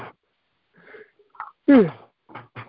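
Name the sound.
yawn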